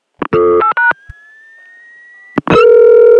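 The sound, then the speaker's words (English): A thin squealing tone on a telephone line slowly glides upward in pitch for about a second and a half, framed by short bursts of harsh, buzzy line tones before and a loud steady one after. “There's rotary dialing, there's touch tones, and there's also this mysterious squeal or tone that tends to sort of change pitch.”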